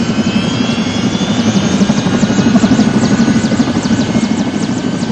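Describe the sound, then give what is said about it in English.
A repainted military helicopter, loaded with people, outboard motors and fuel drums, roars steadily as it lifts off, its engine a dense, loud drone with a fast rhythmic rotor chop pulsing throughout. No voices are heard. “Another relic is our transportation, a repainted military helicopter that's being loaded for the final leg of the trip.”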